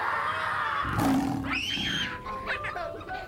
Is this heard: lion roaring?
yes